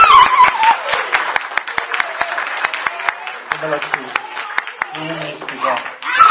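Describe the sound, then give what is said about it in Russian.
A crowd claps steadily for several seconds, a dense patter of overlapping hand claps, with scattered voices and a few higher vocal sounds rising above the applause, applauding the young listeners. “Так что им аплодисменты.”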